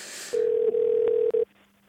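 A loud, steady electronic beep at a medium-low pitch sounds for just over a second as a phone call cuts out, stuttering briefly near its end, then a faint hum remains.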